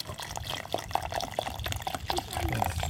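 Cola-coloured water is poured carefully and steadily onto pebbles at the top of a homemade filter, an upturned water bottle with many layers standing neck-down in a container. It trickles and splashes with scattered small drips and clicks, moderately loud over a low background rumble.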